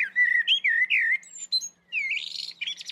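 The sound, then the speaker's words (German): A songbird sings a clear, low-frequency fluting motif of several rising and falling whistled notes, followed by a burst of rapid, higher twittering; fairly loud, with no voices. “dieser flötenhafte Motivteil, der ist sehr tieffrequent und der trägt sehr weit im Wald”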